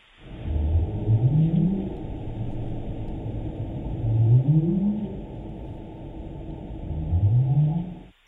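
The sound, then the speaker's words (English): Three North Atlantic right whale up calls, each a low, short tone sweeping upward in pitch, spaced about three seconds apart over a steady low rumbling background. “Those are the what we call up calls produced by the North Atlantic right whale.”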